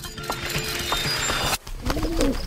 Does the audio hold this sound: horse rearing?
no